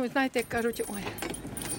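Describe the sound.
Keys jingle and clink in a quick, irregular metallic rattle while someone fumbles at a lock, with a person's voice heard briefly at the start.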